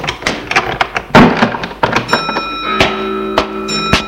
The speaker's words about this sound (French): Ils entrent. Elle ferme la porte.